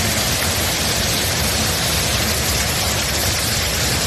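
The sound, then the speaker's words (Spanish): Heavy rain from storm Nelson pours down in Spain in the early hours of the night, a dense, steady hiss that stays loud and unbroken throughout, with a low rumble underneath and no voices. “Y es que la lluvia ha silenciado la madrugada.”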